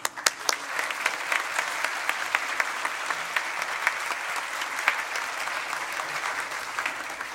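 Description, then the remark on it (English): Steady applause from a seated crowd at Temple school for three graduating students who have attended since K-4, dense clapping at an even level for several seconds after a sharp start, with no voices standing out. “If we'll give them a round of applause.”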